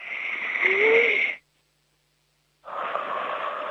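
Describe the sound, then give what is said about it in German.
Two loud breaths with a pause between, as people breathe deeply together before a word game: a long forceful inhale or exhale, a moment of silence, then another deep airy breath, no talking. “Wir atmen jetzt nochmal gemeinsam kräftig durch.”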